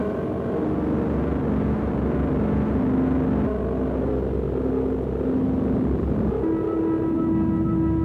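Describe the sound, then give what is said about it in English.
A steady synthesizer noise drone rumbles on for the whole stretch, dense and low-heavy, with faint sustained tones gliding and shifting pitch inside the hiss. No voices. “Down the noise drone.”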